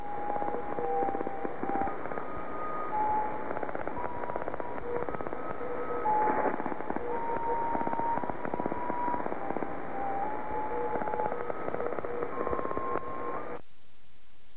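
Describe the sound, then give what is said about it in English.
A weak coded radio signal from a station owned by the Army Signals Warfare Training Center: ten steady musical tones, each about one second long, stepping between a few pitches, half-buried in hissing static and crackling interference, then cutting off abruptly near the end. “And that's the tone code I was talking about earlier.”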